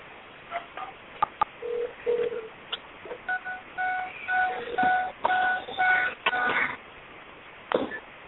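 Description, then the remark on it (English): A string of telephone keypad button tones beeps in quick, uneven succession over a narrow phone line, mixed with a few sharp clicks and faint line hiss, with no talking. “you only have to push the one button.”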